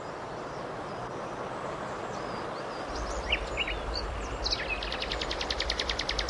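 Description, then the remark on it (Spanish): Scattered bird chirps and a quick rhythmic trill ring out over a steady, rushing wash of a flowing river on a sunny spring day after much rain, the calls fairly faint against the constant outdoor noise. “Todos agradecemos este sol, los árboles, la hierba, los pájaros y la quejumbrosa reuma de un servidor.”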